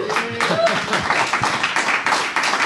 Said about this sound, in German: Ja, jetzt fragt sich natürlich, Dankeschön, danke. Jetzt fragt sich natürlich, für wen der Applaus war.